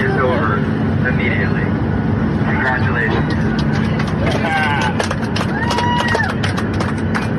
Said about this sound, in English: Here's the sound on the plane when the flight attendant announced that the mask mandate was now not a mandate and was now optional and voluntary. Check this out.